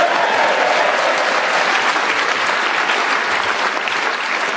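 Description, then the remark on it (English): A crowd applauds a performer's animated reading, a dense, loud wash of clapping that holds at an even level for the whole stretch without pausing or fading. “Excellent round of applause,”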